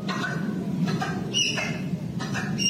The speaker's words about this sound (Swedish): Men det där squeaky-ljudet är inte någon fågel alltså, utan det är tapiren också. Ja, den skriker till. Det är många som har sagt att det låter lite grann som att det är en nödbroms. Alltså en bil som drar i handbromsen.